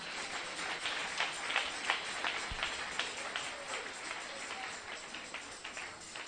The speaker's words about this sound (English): Clap for them.